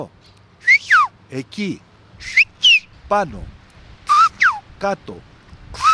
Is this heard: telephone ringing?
no